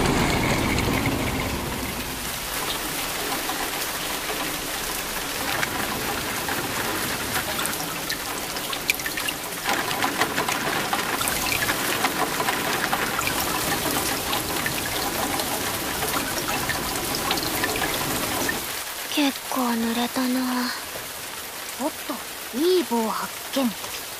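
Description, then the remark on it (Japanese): Steady, loud rainfall hisses across the whole clip, pattering densely on surfaces. Near the end, voices speak briefly over the continuing downpour. “あ、雨だー！”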